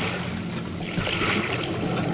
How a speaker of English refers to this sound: The impact of the landing threw me against the wall of the fuselage, but a moment later, the sound of water rushing in through the loading doors brought me around fast.